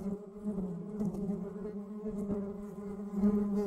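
Steady droning buzz of bees, a continuous hum that wavers slightly in pitch and loudness throughout, with no talking over it.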